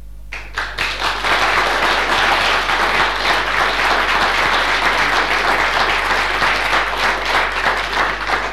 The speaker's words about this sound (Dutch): Applaus